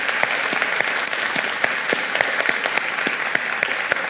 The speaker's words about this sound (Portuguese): Exemplo disso, e aqui eu rendo homenagem, é a nossa amiga, conterrânea, companheira Inês Etienne, a quem eu peço uma salva de palmas.